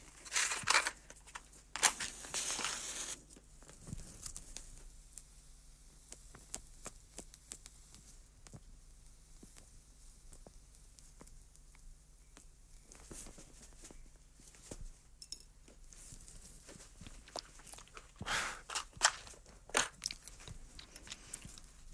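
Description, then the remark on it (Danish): A cigar being relit: a few sharp scratchy bursts at the start, then a long stretch of faint crackles and soft puffing, with another brief rasping flare near the end. No one speaks. “Inden jeg går i gang, så vil jeg nok lige se at få ild på cigaren igen.”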